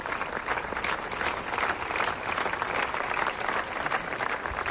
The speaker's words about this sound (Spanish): Aplausos tras un minuto de silencio en la Plaza de María Pita, donde se concentraban casi 400 personas con pancartas en las que se rechazaba la violencia de género.